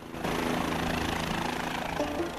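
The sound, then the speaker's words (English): A steady, loud mechanical drone of a helicopter in flight, its engine whine and rotor noise holding at a constant level after a brief quieter start, with no voices. “climbs into another helicopter.”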